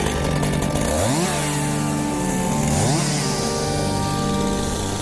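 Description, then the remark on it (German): Loud chainsaws, wielded by two performers on stage near the end of a Thalia Theater staging of Die Odyssee, roar steadily as they saw through a wooden post, their engine pitch rising and falling as they rev and bite into wood, with dense buzzing harmonics filling the whole stretch and no voices. “Die beiden Darsteller sind schon auf der Bühne mit so Kettensägen, zersägen sie so einen Holzpflock.”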